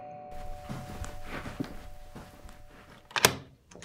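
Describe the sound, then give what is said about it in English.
A few soft footsteps, then a sharp latch click and thump as a front door is pulled open to answer a visitor, with no talking. “Answer the door.”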